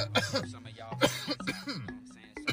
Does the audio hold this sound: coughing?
yes